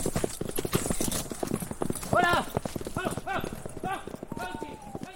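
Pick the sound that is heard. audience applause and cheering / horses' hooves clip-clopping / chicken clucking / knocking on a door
horses' hooves clip-clopping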